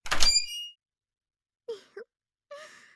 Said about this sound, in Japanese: さてと、じゃあここでいいよね。扉を開けてっと。